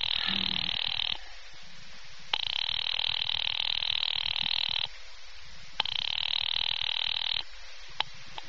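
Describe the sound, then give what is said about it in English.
A telephone line rings in long buzzing bursts separated by short pauses, a steady repeating ring tone heard through the earpiece as a woman calls her husband's office at Murray Hill 70093, fairly loud with faint clicks in the gaps. “Ringing Murray Hill”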